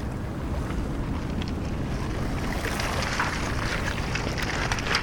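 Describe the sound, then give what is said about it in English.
Small waves lap steadily against the shingle at the edge of the River Thames, with soft irregular splashes over a constant low rumble of wind and water. No one speaks. “Right down here on the edge of the Thames, in amongst all the shingle where so many pieces of detritus land at every tide.”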